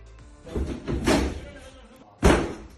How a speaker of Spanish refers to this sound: Y este sonido es la policía tirando abajo la puerta de un piso en la calle La Gasca en Madrid para poner fin a una fiesta ilegal que se daba en pleno estado de alarma.